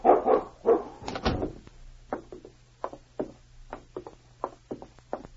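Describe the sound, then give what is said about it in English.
A dog named King barks loudly a few times as it is being let out, a brief thump sounds, then a string of quicker, quieter yips and barks follows at an uneven pace. “Well, I was just letting my dog out for a few minutes.”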